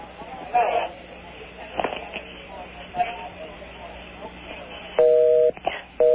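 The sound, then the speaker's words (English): Telephone dialing tones sound as an operator connects a call to Greenland: faint scattered beeps early on, then two louder, steady touch-tone bursts near the end, over a low murmur of line noise and faint voices. “I'm trying to connect you. Please hold.”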